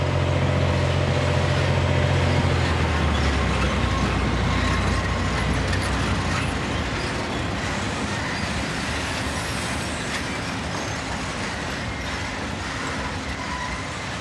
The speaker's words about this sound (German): Wir hören einen Zug. Der Zug kommt aus dem Stahlwerk.